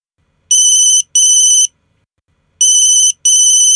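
A telephone rings in two double bursts, each a pair of bright electronic trills with a short pause between, clear with no voices, as a call is placed to a friend.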